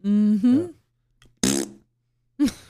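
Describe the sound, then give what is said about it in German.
A voice blows a loud, buzzing raspberry imitating a fart, followed by a short breathy burst and then another brief vocal fart sound. “Der macht im Auto auch mein Mund hat gepupst.”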